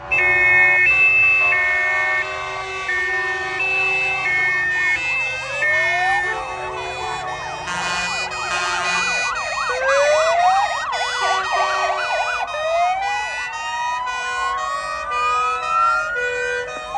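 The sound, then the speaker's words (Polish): Sirens of fire trucks, Border Guard, ambulance and police vehicles wail at once in a demonstration of sound signals, their rising and falling tones overlapping into a dense, loud tangle of pitches that continues steadily throughout, with no talking. “To, co było najciekawsze, to pokaz sygnałów dźwiękowych. Tutaj dopisali i strażacy, i Straż Graniczna, i pogotowie ratunkowe.”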